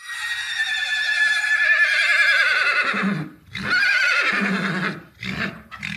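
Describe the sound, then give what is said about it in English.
A horse at Karlsruhe lets out a loud, long whinny with a quavering, falling pitch, followed by a couple of shorter, rougher neighs and snorts, clear with no talking. “They don't whinny like the horses up at Karlsruhe.”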